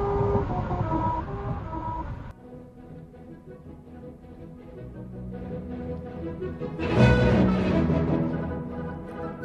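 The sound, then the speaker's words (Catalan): A car rolls over a musical road in Lancaster, California, its tires droning out a wavering, off-key melody above steady engine and road noise, swelling louder near the end. “hem de dir que un cotxe no és la Filarmònica de Berlín.”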